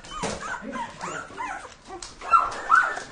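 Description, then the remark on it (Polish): A dog in an apartment crowded with many dogs in Aleksandrów Łódzki whines and whimpers in high, wavering cries, then lets out two louder, sharp barks near the end. “W tym mieszkaniu nie da się normalnie funkcjonować. Psy, odchody, psie, pogryzione łóżka, fotele.”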